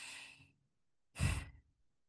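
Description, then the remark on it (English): Two slow, deep breaths taken with eyes closed: a long airy inhale, a short pause, then a fuller sighing exhale, with no talking. “And I do that today by closing my eyes and breathing.”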